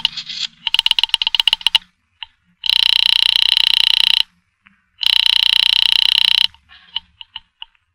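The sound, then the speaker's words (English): A rapid burst of dialing clicks from a pay phone booth on Bayshore Boulevard as day breaks, then two long, loud telephone rings with a pause between them, followed by a few faint clicks. Clear, with no voices. “I went into a pay phone booth to call her and tell her everything was all right.”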